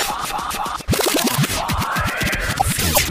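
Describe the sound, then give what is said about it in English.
Rapid turntable scratching, with a record pushed back and forth in quick zipping sweeps up and down in pitch, loud and busy over a steady backing sound, no voices; scratches and record manipulations from The Future 5, a radio station production sound library CD. “Scratches and record manipulations.”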